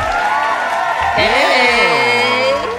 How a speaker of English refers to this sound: With people cheering in the background? Is that the weird part?